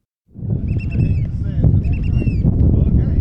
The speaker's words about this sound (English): Some 24 people carefully hop from a large boat to a smaller one, and then onto a rocky island in the middle of Lynn Canal. The wind is whipping, and the boat lurches in the waves.